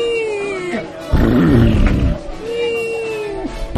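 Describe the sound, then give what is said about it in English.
A person mimics the song of a lone humpback whale heard while in the water, with two long, sliding moans separated by a rougher, growling swell in the middle, loud. “We were there for 5 minutes listening to its singing. Yeah, and, it went something like this.”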